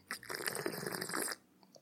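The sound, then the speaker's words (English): A single sip from a small drink of whiskey, a wet, airy slurp lasting about a second before fading into quiet, with no talking. “With me, as almost always, is a small drink of whiskey, a little splash, a light puddle. Here is what my whiskey sounds like.”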